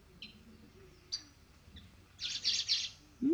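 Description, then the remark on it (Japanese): Bird chicks chirping, shaking their whole bodies and opening red mouths as they call: a few short, high peeps spaced apart, then a louder cluster of rapid, trembling high-pitched cheeps, ending with a brief rising lower-pitched squeak. “可愛く泣いてるんですよ、これ。体全体震わせてね。”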